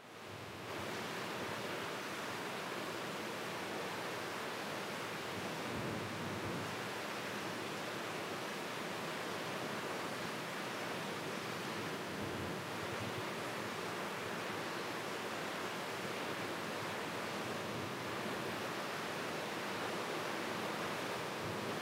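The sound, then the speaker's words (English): Rain falls in a steady, unbroken hiss, a dense wash of noise that holds the same level throughout with no voices or other sounds. “Allow the rain to begin to help you to heal the wounds of time.”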